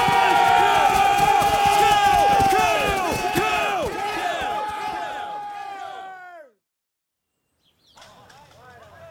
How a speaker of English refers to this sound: Now, charge. And I want to see you putting some jerk into it. And I want to hear your killing scream, lads. Nice and loud. Nice and loud!